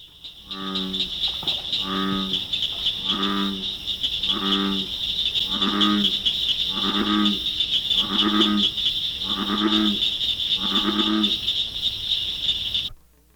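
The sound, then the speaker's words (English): A bullfrog, the largest of all North American frogs, gives its deep, resonant bass mating call about nine times in a steady rhythm, each low droning croak evenly spaced, over a constant high-pitched chorus of insects. “The largest of all North American frogs is a bullfrog, Ranicates biana. Its bass voice can be heard from ponds or streams ranging from Canada to the Coatzacoalcos River at the Isthmus of Tehuantepec.”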